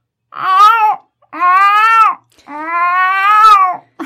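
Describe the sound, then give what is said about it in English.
Someone imitates a cat with three drawn-out, whiny meows, each rising then falling in pitch, the last one longest, with short pauses between them and no other talking. “With a one meow.”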